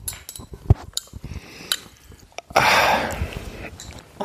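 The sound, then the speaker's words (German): Scattered soft taps and clicks give way to a louder, sustained burst of rustling from a bed, bedding shifting and crumpling, which then fades into lighter, intermittent rustles. “Wenn es im Hintergrund so raschelt, dann ist es unser Bett.”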